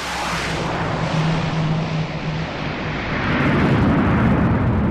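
A heavy U.S. military transport plane roars loudly as it touches down on a dirt runway carved into a hillside at an American logistics hub in northern Syria, its engines droning steadily with a low hum, swelling into a thicker rumble near the end. No voices.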